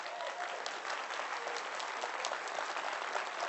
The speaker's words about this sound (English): Clap your hand, all you people.